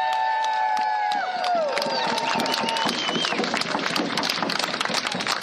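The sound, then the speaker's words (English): A large crowd of somewhat more than 400 to 600 people at a Quinault Indian Nation gathering bursts into sustained applause, dense clapping mixed with cheers and a few whistles that fade out early, filling the whole stretch at a steady, loud level. “So let's give everyone a round of applause.”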